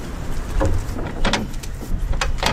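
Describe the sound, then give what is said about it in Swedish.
Heavy truck cargo doors are unlatched and pulled open by a woman, with several sharp metallic clanks and rattles over a steady low rumble. “Hon lossar på låsen och drar upp de stora dörrarna.”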